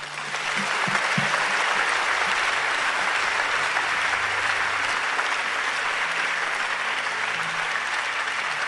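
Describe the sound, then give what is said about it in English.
A large audience claps for Jesus, a dense, continuous wash of many hands that holds at an even, loud level throughout, with a faint low murmur of voices underneath. “So if it's Jesus you're clapping for, clap well.”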